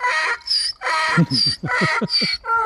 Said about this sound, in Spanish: Y bueno, es un burro, pero qué ritmo, ¿eh? Fijaros. Y a, y a, y a, y oh.